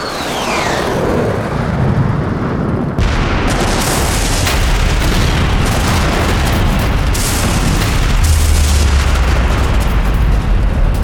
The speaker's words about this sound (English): The pressure wave from the rolling explosion boiled out from the island,